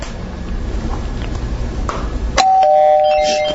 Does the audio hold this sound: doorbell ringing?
yes